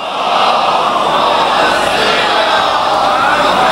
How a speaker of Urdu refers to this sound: مل کے صلوات پڑھیں محمد و آل محمد.